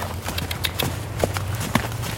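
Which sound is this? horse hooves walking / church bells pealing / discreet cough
horse hooves walking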